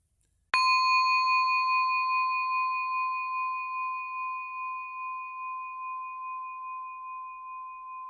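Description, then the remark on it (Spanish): A single meditation bell is struck once and rings out clearly, its pure tone sustaining and slowly fading with a gentle wavering shimmer over several seconds in otherwise quiet surroundings. “En esta práctica, el foco de atención será el sonido de la campana.”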